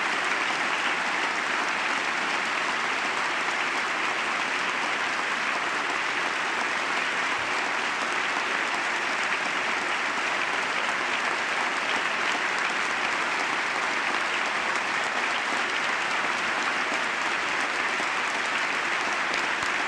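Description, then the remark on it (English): Loud, sustained applause from a large crowd, a standing ovation for uniformed Armed Services veterans of the wars in Iraq and likely Afghanistan seated in the gallery, a dense steady roar of clapping that holds at an even level for the full twenty seconds with no break or speech. “Sustained applause here.”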